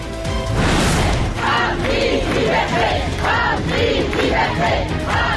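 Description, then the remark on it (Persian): A large crowd of University of Tehran students at a protest gathering chants and shouts together in loud, rhythmic bursts, many voices dense, sustained without pause throughout. “تجمع دانشجویان دانشگاه تهران و بازداشت چندین دانشجو و دانش آموز.”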